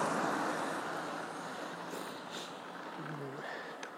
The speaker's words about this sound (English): I suppose it's Saturday night. I was thinking there's a lot of traffic for this time of night, but it's gone 11 o'clock, I think.